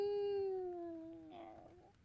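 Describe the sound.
A single long, drawn-out cat meow, clear, its pitch sliding slowly downward before breaking into a rougher, breathy tail near the end.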